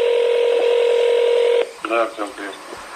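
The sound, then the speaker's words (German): A loud, steady telephone line tone hums for a second and a half, then cuts off abruptly as a voice briefly comes on the line, as Alexei Navalny phones an agent of Russia's FSB domestic intelligence service. “Auch Nawalny rief an.”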